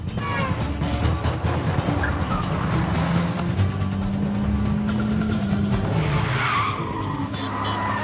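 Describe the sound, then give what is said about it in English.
A taxi's engine revs hard and roars as it speeds away after someone, knocking over a baggage trolley, with tires squealing and skidding; loud, continuous, and no one speaks. “Gunning the car, Brian knocks over a baggage trolley as he speeds after Peter.”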